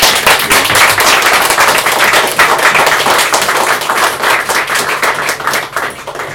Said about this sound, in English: I just want to say that was beautiful. Thank you very much. Can we just give her another clap, please?